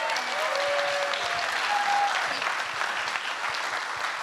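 Steady audience applause fills the whole stretch, a dense, even patter of many hands clapping at full strength, with a few faint whistles or cheers rising briefly above it early on.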